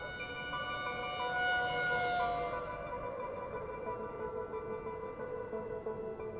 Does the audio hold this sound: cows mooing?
no